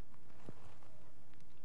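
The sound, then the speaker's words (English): A few footsteps of a man going across a street fall at an unhurried, uneven pace, fairly quiet, with no voices over them. “As he hears the footsteps going across the street, he comes to the realization there's no hope in that man.”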